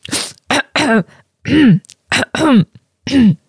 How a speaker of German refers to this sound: ich weiß nicht, wann räusperst du die so im Minutentakt?